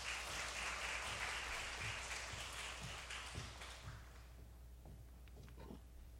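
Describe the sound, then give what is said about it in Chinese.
An audience claps together to welcome the new chairwoman who is about to share, a steady, dense burst of applause that holds for a few seconds, then thins out and fades to a few scattered claps. “我们把时间交给她，我们拍手来欢迎她。”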